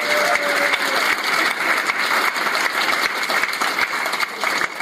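Steady, dense applause from an audience for a contestant who lost, many hands clapping at once in a continuous crackling wash that stays loud throughout without fading.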